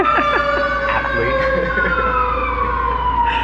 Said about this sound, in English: Okay, we're going to take a pause while this fire truck goes by.